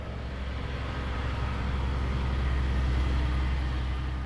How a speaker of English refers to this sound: Gusts of wind carry the noise of excavators down from a flattened, bare, reddish-brown mountain that rises out of the jungle some 3 kilometers away. The mountain top has become a gigantic mine that is slowly being excavated, terrace by terrace.